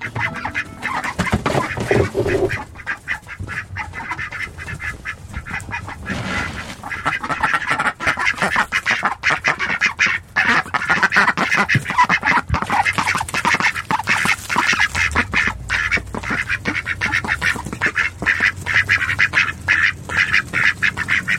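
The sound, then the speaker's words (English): A chaotic chorus of many ducks quacking continuously, loud, with dense overlapping calls and rapid rhythmic bursts throughout, no voices present. “And this is where he gets round to the ducks.”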